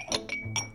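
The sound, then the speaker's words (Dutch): Two drinking glasses clink together several times in quick succession, bright ringing taps with a short shimmering resonance, fairly quiet, with no one speaking. “Kijk, ik heb hier”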